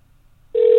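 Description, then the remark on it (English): After a brief quiet stretch, a steady electronic telephone ring-back tone starts and holds clearly and loudly, like a call connecting on the line. “We gotta wait. It's doing a ring back.”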